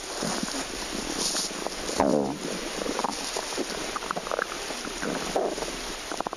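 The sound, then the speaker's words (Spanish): A human stomach rumbling, amplified into rough gurgles and low growling groans over a steady rushing hiss, with one louder, drawn-out grumble about a third of the way in. “Bueno, pues aunque lo parezca, no son los gruñidos de una foca macho, es nuestro estómago.”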